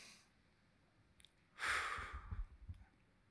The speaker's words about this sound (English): The oxygen we're breathing right now, that's kind of nice. Everybody take a deep breath.